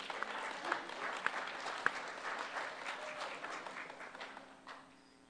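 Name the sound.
audience applause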